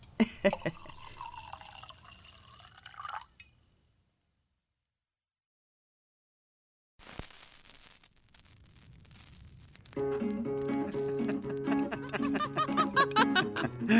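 Wine glugs and splashes into an empty wine glass as it is refilled at a meal, for a few seconds, stops, then a softer trickle of liquid follows before steady tonal music comes in.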